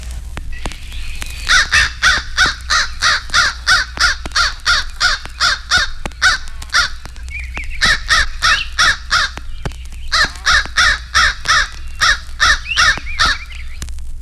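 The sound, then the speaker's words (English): An Eastern crow caws loudly and repeatedly in rapid bursts of harsh calls, with brief pauses between series, over a low steady background rumble. “Eastern Crow.”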